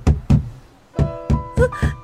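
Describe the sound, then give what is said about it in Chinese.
Loud, heavy knocking on a door by men from the city district brigade: two quick thumps, a short pause, then four more forceful, insistent bangs. No voices. “是谁敲门这么无礼？”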